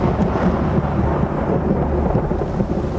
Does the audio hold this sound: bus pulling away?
no